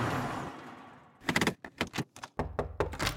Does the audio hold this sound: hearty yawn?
no